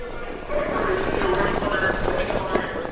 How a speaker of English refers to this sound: Horses are still trotting at Bangor Raceway, a few hundred yards from Hollywood Slots